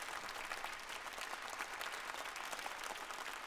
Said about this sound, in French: Alors, c'est curieux parce que j'ai l'impression que c'est pas tout à fait les mêmes applaudissements. Ça, vous voyez, c'est plus franc. Alors que les autres, je sais pas bien à quoi ça correspond.